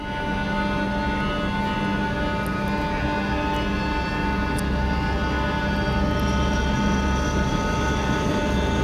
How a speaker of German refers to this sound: Genau, das ist relativ am Anfang dann des Stücks, wenn der Helikopter aufsteigt oder alle 4 Helikopter aufsteigen